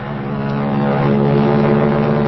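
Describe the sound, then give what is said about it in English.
Royal Canadian Air Force propeller planes fly overhead towing a 10-ton maraschino cherry, droning loudly and steadily, a continuous throbbing engine roar with layered low harmonic hums that swells slightly and holds without a break. No one speaks. “Cue the Air Force.”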